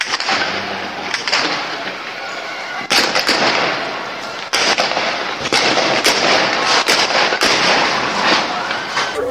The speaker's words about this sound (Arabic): ناس أبو تيرة بضربوا رصاص حي لو شفتوهم وندلك ليهم.